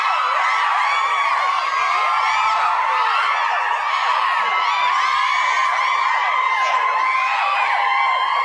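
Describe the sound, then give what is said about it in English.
A crowd cheer sound effect played at Skid Row Studios: a crowd cheers loudly and steadily throughout, a dense wash of high-pitched whoops, shouts and squeals with no pauses, sustained at a constant level for the full length. “Sexy crowd cheer.”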